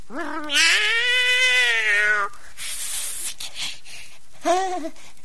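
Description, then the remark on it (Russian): A cat lets out a long, drawn-out meow, followed by a breathy, hissing rush of noise and then a shorter second meow. “Кошка, это ты?”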